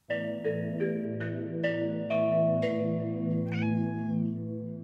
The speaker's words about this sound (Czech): Když však míjela strom, muž vyskočil a rychlostí blesku na ní hodil síť. Ozvalo se kvíkavé mňouknutí, po němž následovalo triumfální heknutí. Kočka byla lapena.